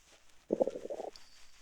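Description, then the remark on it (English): A hungry stomach lets out a short, bubbly gurgle lasting about half a second, a low, wobbling rumble that rises suddenly and fades, with quiet before and after and no voices. “Sounds like somebody's hungry.”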